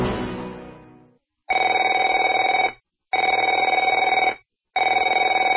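A telephone rings in three long, steady bursts separated by short silences, following an opening tone that fades away. The ringing is loud and bright, with no voices.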